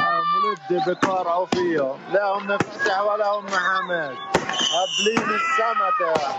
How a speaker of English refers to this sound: They were literally just firing ordnance down from Arab areas near Jerusalem into the Jewish areas of Jerusalem. You can see it happening. They're shooting fireworks at the Jewish areas in Jerusalem.